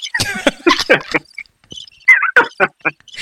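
cricket chirping sound effect

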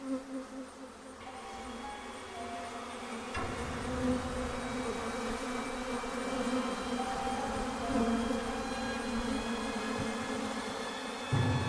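swarm of bees buzzing

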